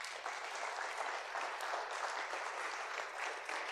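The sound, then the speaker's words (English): A church audience applauds steadily after a baptism, a dense, even wash of many hands clapping that holds at a fairly loud level throughout, with no voices standing out. “Let us give her a round of applause.”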